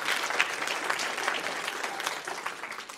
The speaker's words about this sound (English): If you enjoyed that, say amen. If you'll pray for them, give them a round of applause. I love them. I'm glad you get to meet them.